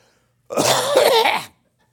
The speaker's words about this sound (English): So, you think it's funny that I'm coughing?